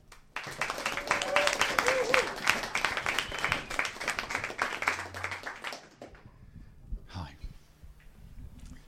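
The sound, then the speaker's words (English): A crowd bursts into dense, steady applause to welcome a performer, many hands clapping at once in a bright rattling wash for several seconds, then it quickly dies away, leaving a few scattered claps and quiet room noise. “Please clap your hands, stamp your feet if you like,”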